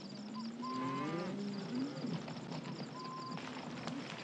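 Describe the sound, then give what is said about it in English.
Cattle resting in the dark at night low softly: a drawn-out, wavering moo rises and falls in the first two seconds, quiet, over a steady high chirr of insects, with no talking. “At night, the cattle rest quietly in the dark.”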